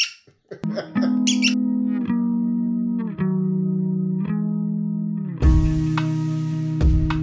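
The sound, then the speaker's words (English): A rubber squeaky toy ball squeals in a run of about six long, high, wheezy squeaks that blend into one another, shifting slightly in pitch, loud and steady with no talking. “Make it squeak.”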